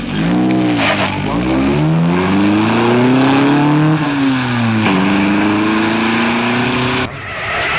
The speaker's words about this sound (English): One day he drove up to a luncheonette, parked, opened the door on the street side, and rolled the red carpet across the sidewalk.